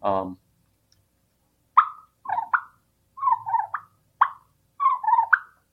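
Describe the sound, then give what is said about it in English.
A latex-and-reed turkey call, worked with throat and tongue, makes soft, rolling purrs like contented feeding turkeys, in short clustered bursts of fluttering mid-pitched notes, repeated several times with brief pauses, after a quick voice fragment at the start. “Other sounds that we just hinted to are like the purr, which can be very contented.”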